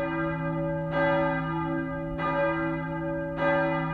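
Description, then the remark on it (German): A large cast steel church bell of St. Marien tolls alone, struck three times at a slow, steady pace, each clang ringing over a deep, sustained hum that never fades between strikes. “Die große Glocke wies in ihrer lateinischen Inschrift auf den Grund der Stiftung hin.”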